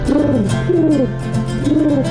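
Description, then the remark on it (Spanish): A pigeon coos in three soft, low rolling phrases, close and steady, with a faint background hum and no one speaking. “Y a la paloma.”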